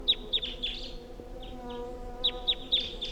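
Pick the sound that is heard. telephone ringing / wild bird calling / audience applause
wild bird calling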